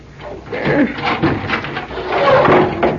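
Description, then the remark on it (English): A barricaded flat door is shoved open, with heavy scraping, creaking and grinding as it is forced against whatever blocks it, lasting a few seconds. “She's got it barricaded, Lou. Yeah, here, help me. Shove it open.”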